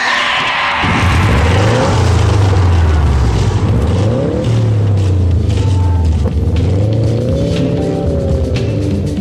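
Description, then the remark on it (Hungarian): A car engine cranks and catches, then revs repeatedly, its pitch rising and falling in strong surges, opening the Hungarian radio car magazine show Négy keréken presented by Szeibéko Autószerviz. Loud, with no talking over it. “Start your engine!”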